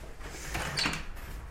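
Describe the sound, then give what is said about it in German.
A front door is pulled open with a brief scraping rush and soft rattle, fairly quiet, lasting about a second with no talking. “So, ich mach die Tür auf und dann muss ich auch gleich los.”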